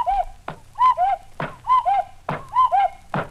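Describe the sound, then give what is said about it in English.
A cuckoo clock on top of a radio, turned back to four o'clock, calls four times, each two-note 'cu-ckoo' followed by a hollow wooden knock from the mechanism, in a steady, fairly loud rhythm with no talking. “On top of radio, light behind head, is cuckoo clock.”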